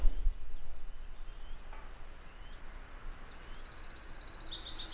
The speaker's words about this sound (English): Oh, we're back to the Orange Crown Warbler. Listen to the trill now. Slows down at the end and changes pitch. Here we go.